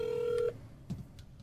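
A steady electronic ring tone over a phone line, one half-second burst that cuts off, followed by low line hiss and a couple of faint clicks.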